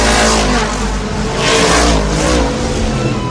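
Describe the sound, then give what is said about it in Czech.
Lightning McQueen's race car engine from Cars roars loudly and steadily, revving up in surging waves as he speeds back onto the track and into the lead, with a broad rushing noise filling the whole clip and no voices. “Rychlostí blesku se dostal zpět na trať a hned do čela.”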